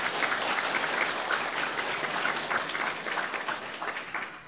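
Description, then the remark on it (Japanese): Steady applause from many people in a church, welcoming a visiting pastor and his wife from a sister church in Niigata, many hands clapping densely and continuously at an even level for several seconds, with no voices standing out. “どうぞ拍手を持って。”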